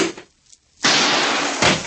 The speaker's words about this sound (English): I found the door. Opened it. Not quiet enough.